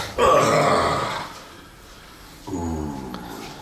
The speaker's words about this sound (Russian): что это за дикие крики были?